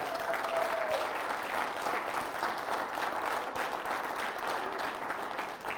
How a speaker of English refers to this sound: If you're a mom, how about a round of applause for these ladies? Absolutely.